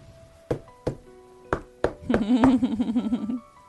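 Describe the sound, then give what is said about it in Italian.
Several sharp knocks land on a door at an uneven pace, fairly loud, and a muffled voice starts calling out over the last few raps. “Cosa bussavi te?”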